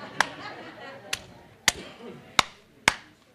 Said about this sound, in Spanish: Suenan diferente. Porque este puede ser una pared de ladrillo hueco. Pero esta es una columna preparada con hierro y hormigón.